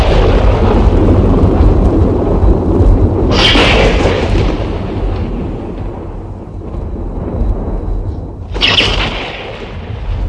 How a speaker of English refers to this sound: Hear it. Hear it. This tremendous noise. This thunder. Like they'd never heard before.